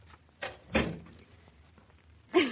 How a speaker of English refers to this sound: I'm just taking a last look before I shut the door behind me.